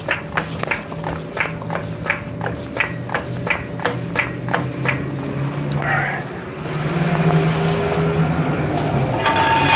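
A hydraulic car jack being worked to lift a car off its jack stands, with a dozen or so evenly spaced, sharp ratcheting clicks over a low steady hum. The clicking stops partway through, leaving a rougher background rumble.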